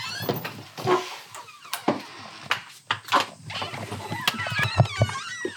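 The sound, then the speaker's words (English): A back door is opened with a rattle and a click, followed by shuffling footsteps and scattered knocks and thumps as people get up from a table and walk out through it, with no talking. “We get up from the table and head out the back door.”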